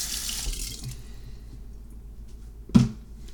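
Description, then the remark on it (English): Liquid is poured steadily from a cup through a funnel into a bottle with a broad splashy hiss that tapers off, then a single sharp drip or plop lands near the end. Fairly quiet, with no voices. “I don't like that cup because it's very difficult to pour, and it drips and it drops and it's not cool, and so it's tricky.”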